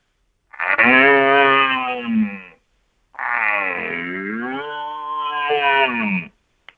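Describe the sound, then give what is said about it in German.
A person imitates a young red deer stag's call, a little higher or louder than an old stag's: two long, harmonic bellowing moans, the second longer with a dipping then rising pitch, fairly loud with a short pause between. “Okay, das war der jüngere Hirsch.”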